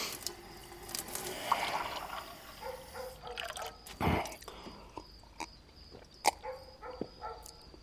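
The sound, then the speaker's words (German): Water runs from a tap a man has gone to, in a steady hiss for a couple of seconds, then gives way to scattered drips, clinks and a brief gush, moderately quiet, with no voices. “Er ging zum Wasserhahn.”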